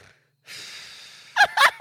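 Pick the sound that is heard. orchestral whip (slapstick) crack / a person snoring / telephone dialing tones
a person snoring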